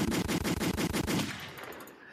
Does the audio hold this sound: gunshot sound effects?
yes